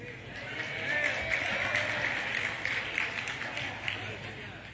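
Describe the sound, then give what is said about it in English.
An audience applauds in a steady, dense wash of clapping that holds at an even, moderate level for about five seconds, with a faint murmur of voices mixed in. “You clap now.”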